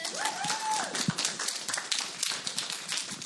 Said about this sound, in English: Give me a clap if you want to.